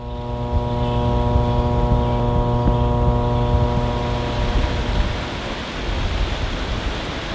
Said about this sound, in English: This week, the sounds of an electricity transmission line and the James River serve to remind us that energy use, including electricity generation, is closely linked with water resources.